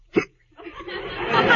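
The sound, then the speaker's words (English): A single sharp hiccup pops out at the start, followed by a brief pause and then a swelling, breathy noise that grows louder toward the end. “I can't sleep while you're hiccuping like that.”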